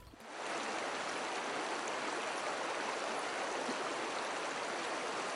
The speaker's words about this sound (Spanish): El sonido del agua es la canción de la vida.